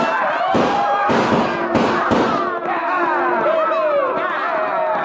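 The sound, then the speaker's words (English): Four or five sharp six-gun shots crack out in quick succession over a steady rumbling roar of stampeding cattle hooves, herds driven through a pass toward a barricade at a dead run, with shouting voices, whoops and yells carrying through the din. “And then with one wild whoop and the echo and roar of 6 guns, we started those cattle toward the barricade at a dead run.”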